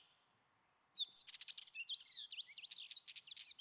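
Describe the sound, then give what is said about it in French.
A northern wheatear, a small mountain bird, sings a quick, scratchy warble of chirps and whistled notes from the rocks above the Garcin hut, over a steady high insect-like buzz in the background. “À gauche, là, dans les rochers, on aperçoit un petit oiseau qui paraît tout blanc avec un masque noir. Lui, c'est le trachémoteux.”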